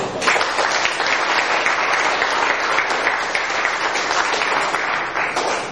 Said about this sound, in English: for giving the talks in the final plenary session, which I think deserves some extra round of applause.